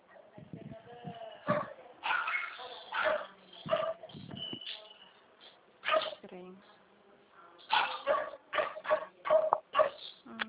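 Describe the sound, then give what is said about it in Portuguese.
A dog barks outside in a rapid series of sharp yaps, the bursts coming faster toward the end, with a voice audible in the first part. “Eu não poderia ir lá fora ajudar a segurar o cachorro agora.”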